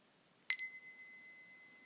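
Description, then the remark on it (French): A single bright, clear bell strike, its ringing tone lingering and slowly fading away over the next second or so in otherwise quiet surroundings. “Je vais maintenant sonner la cloche et t'invite à écouter attentivement le son que fait la cloche, du début jusqu'à la fin.”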